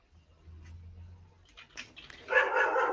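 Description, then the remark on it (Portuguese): A dog named Bidu barks: a couple of sharp barks followed by a louder, drawn-out bark, after a low background rumble. “Obrigado, cachorro.”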